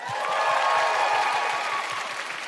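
An audience breaks into steady applause, a dense wash of many hands clapping at an even, sustained level with a few faint cheers mixed in.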